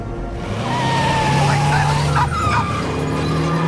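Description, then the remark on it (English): A car engine roars steadily while tires squeal and skid in sharp, wavering screeches, loud, as Siler drives off in the car while gunmen run out. “He drives off as the gunmen run out.”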